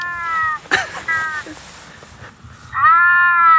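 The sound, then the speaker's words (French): A European wildcat's rutting call: drawn-out, wailing yowls in several bursts, ending in a loud, sustained cry, with no other voices. “C'est du rut. C'est clairement du rut.”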